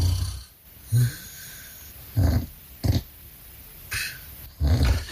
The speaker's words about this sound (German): Ebenfalls im Schnarchnasenrennen Simone aus Schwedt und ihr Mann …. Vielleicht das außergewöhnlichste Schnarchen Brandenburgs?